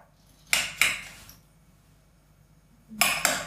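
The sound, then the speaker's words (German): Butter going into a frying pan: two quick metallic clinks and scrapes, a quiet pause, then another pair of sharp knocks against the pan. No voices. “Nee, Butter. Butter bitte. In die Pfanne.”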